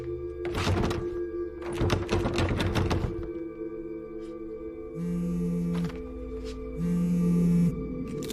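The handle of a closed black door is tried and rattled in a quick cluster of loud metallic clacks and thunks. Two steady mechanical buzzing hums follow, with no one speaking.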